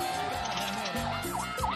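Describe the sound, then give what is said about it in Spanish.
Emergency sirens from a fire truck and an ambulance wail with rising and falling sweeps as they pass, loud and continuous over a low rumble of traffic jammed at the south exit into Valdivia. “Así que aquí va bombero, papi, aquí va bombero, ambulancia.”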